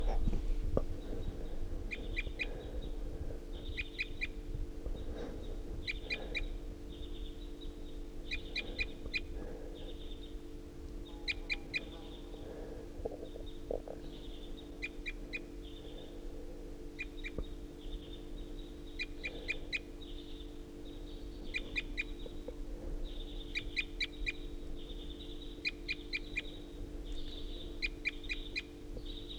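A wild bird perched at the top of a tall ponderosa pine calls repeatedly at 7:31, giving short clustered chirps every couple of seconds, with a steady low hum running underneath and no talking.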